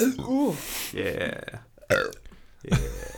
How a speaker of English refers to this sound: That was like four different burps in one. That sounded really good in the microphone. Like, it sounded way better than like a real live burp.